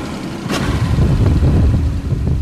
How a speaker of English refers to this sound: Back out on the Gulf. It's nighttime now, and as the boat goes far from shore, it's suddenly pitch black.